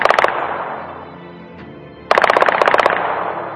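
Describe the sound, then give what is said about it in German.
Rapid bursts of automatic gunfire at the General Staff headquarters in Ankara, Turkey, at 9:30 pm on a Friday during a coup attempt: a short volley at the start, a lull filled with a fading reverberant tail, then a second louder burst of quick repeated shots echoing around. “Als die Uhr am Freitag 21.30 Uhr zeigte, waren im Hauptquartier des Generalstabs in Ankara Schüsse zu hören.”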